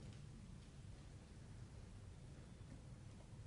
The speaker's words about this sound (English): So we understand this, that very often weather like this brings noise with it. It's not just thunder. It's the sound that is made by the water drops as they fall and they hit other things.